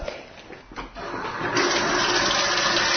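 Ordinary tap water is poured into drinking glasses for an experiment, a soft trickle at first that swells into a steady, loud rushing splash for the second half, with no talking.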